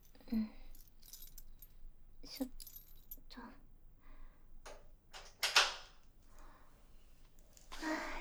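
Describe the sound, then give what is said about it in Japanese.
Keys jingle in short metallic bursts, followed by clicks and a scrape as the door lock of a love hotel room turns and the door opens, moderately loud with some soft rustling. “鍵は、”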